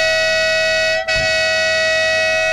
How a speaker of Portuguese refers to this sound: São os dois adeptos, dois dos muitos adeptos que vieram nesta carrinha de 9 lugares. Vamos ouvir aqui a buzina da carrinha.